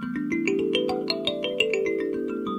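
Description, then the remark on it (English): A thumb piano plays a quick run of plucked, ringing notes that climb in pitch and then move around, each tone sustaining and overlapping the next at a steady, moderate volume, with no talking. “And what is the market for thumb pianos like?”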